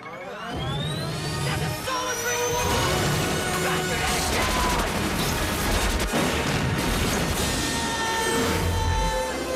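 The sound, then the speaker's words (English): A motorbike smashes out through a brick wall and falls downwards amid a loud, sustained barrage of crashing debris and rumbling impacts, dense and chaotic throughout, with faint voices buried underneath. “They smash out through a brick wall and fall downwards.”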